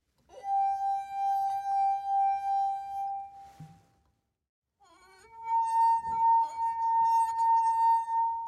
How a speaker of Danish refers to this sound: De her toner, I hører her, laver jeg med vinglas. Ved at køre en våd finger rundt på vinglassenes top, så kan jeg få glasene til at vibrere en lille smule. Og det laver altså lydbølger, som vi kan høre som smukke toner.